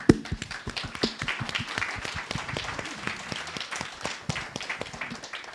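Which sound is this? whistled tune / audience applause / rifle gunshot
audience applause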